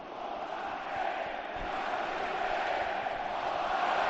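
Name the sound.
stadium crowd chanting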